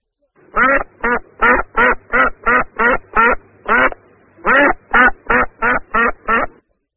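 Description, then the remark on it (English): A duck quacks loudly and steadily, about fifteen evenly spaced quacks in a rapid series with a brief pause partway through, with no other sounds. “I hear a duck.”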